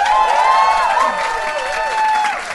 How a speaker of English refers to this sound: Give me a round of applause if you have heard our podcast before.